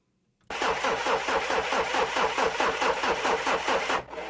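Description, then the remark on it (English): A car engine cranks over and over with a rapid, rhythmic grinding churn, loud, for about three and a half seconds without catching, then cuts off; the car again fails to start. “Oh no, the car won't start again.”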